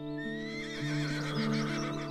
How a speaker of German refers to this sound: War das ein Wiehern? Du blickst auf und tatsächlich, ein weißes Pferd steht ganz am Ende der großen Wiese und blickt dich ruhig an.